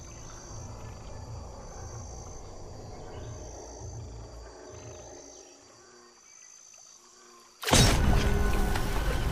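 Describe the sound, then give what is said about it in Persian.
A male frog gives deep, throaty croaks in a steady pulsing rhythm, fairly loud, announcing its victory to female frogs after claiming the best spot, then falls quiet before a sudden loud rushing burst of noise cuts in. “برنده بهترین نقطه رو تصاحب میکنه و پیروزیشو به قورباغه های ماده اعلام میکنه.”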